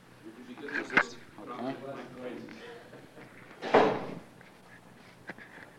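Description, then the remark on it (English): A door swings shut with a single solid thud partway through, closed before a talk begins because another session is next door, after murmured voices and shuffling; faint background noise lingers afterward. “I don't know, do we want to close the door?”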